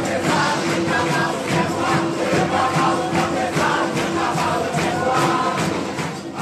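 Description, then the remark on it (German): A large crowd applauds steadily and loudly as a coffin is carried in shortly before midnight, dense overlapping clapping with a murmur of voices and cheers mixed in, holding strong throughout before easing slightly at the end. “Und als kurz vor Mitternacht der Sarg hereingetragen wird, brandet Beifall auf.”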